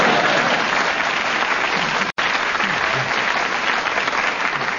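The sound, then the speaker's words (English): A crowd applauds in a steady, dense round of clapping that stays loud for several seconds, broken by one brief cut of silence partway through. “Well, I thought that was worth a round of applause, if nobody...”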